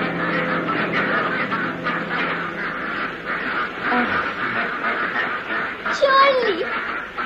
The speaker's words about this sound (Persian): نه ببین چقدر اردک اینجاست.